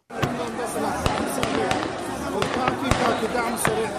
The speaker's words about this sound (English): Gunfire in the heart of Sudan's capital, Khartoum. Armed men in uniform fired in the air and at protesters at an ongoing mass sit-in Monday night, killing several and wounding dozens.